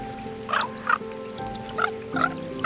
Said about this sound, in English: So I take in the sounds alone are amazing. You've got, you know, ravens, you know, with these kind of harpy screams that they do, and they do these croaking sounds.